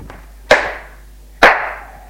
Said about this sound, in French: Il le gifle.